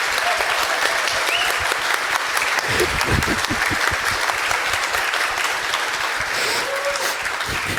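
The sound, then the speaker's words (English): Sustained applause from a large audience at the Froscon conference, thanking the conference organizers: dense rapid clapping that stays loud and steady across the whole stretch with a faint crowd murmur underneath. “let's give also at this moment these 2 guys and all the people involved in this a huge round of applause, because they made it happen that we can do it this year.”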